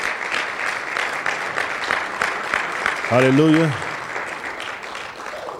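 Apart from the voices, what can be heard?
audience hand clapping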